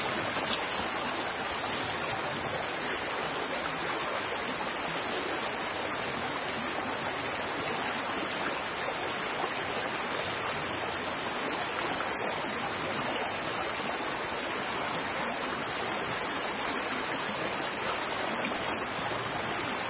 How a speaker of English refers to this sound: Now, usually there was a lot of waiting, but this time, this is a pretty fast little brook, so we're going to have to be fast.